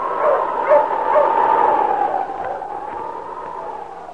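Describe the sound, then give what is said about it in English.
A dog, King, Sergeant Preston's wonder dog in the Yukon during the gold rush, barks a few times, the barks running together over a steady whining, howl-like tone that carries on throughout, with no one speaking. “Now back to the days of the gold rush when Sergeant Preston and his wonder dog King battled through storm and snow to preserve law and order as they met the challenge of the Yukon.”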